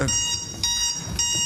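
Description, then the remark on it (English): An electronic timer alarm goes off, sounding in three evenly spaced, shrill pulses about half a second apart, fairly loud with no talking. “But I guess my timer can buzz me.”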